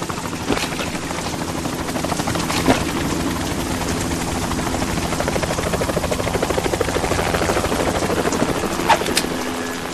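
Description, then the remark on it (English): A helicopter roars steadily, its rotor chopping in a fast, continuous rhythm over a dense engine drone, with a few sharp clicks cutting through. “You will be on the helicopter out of here now.”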